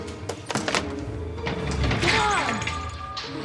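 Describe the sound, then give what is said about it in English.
Heavy, irregular banging on the door of King's Liquor, a closed liquor store on Soledad Canyon Road off Route 14, as a man tries to get in: several sharp thumps in quick succession, then a sustained rattling crash with a metallic squeal, fairly loud throughout. “Yeah, some crazy guy's trying to bust into my store.”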